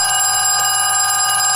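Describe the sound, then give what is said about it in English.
A telephone rings continuously with a bright, metallic bell tone, loud, with no voices present: a phone call to a drive-thru's manager from his young employee. “Let's listen as the drive-thru's manager takes an unwelcome phone call from his young subordinate.”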